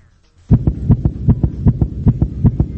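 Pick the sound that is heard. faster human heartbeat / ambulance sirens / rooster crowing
faster human heartbeat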